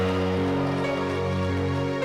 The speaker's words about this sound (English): Why don't you clap your hands and give Jesus a shout in the house?